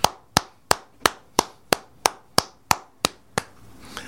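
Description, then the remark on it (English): One person claps their hands about eleven times in a steady, even rhythm, applauding Rick Campbell for keeping it 100, each clap sharp and crisp with no talking over it, before the sound stops. “That's my round of applause, Rick Campbell, for keeping it 100.”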